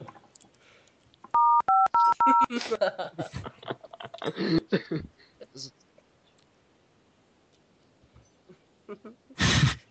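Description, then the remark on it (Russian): A quick series of about five phone keypad button beeps, clear, each a short two-tone chirp, as someone presses buttons on his phone. Muffled voices and handling noises follow afterward. “стал нажимать на своем телефоне, так он у меня без звука стоит.”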